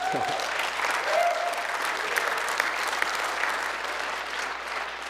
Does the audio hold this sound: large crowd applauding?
yes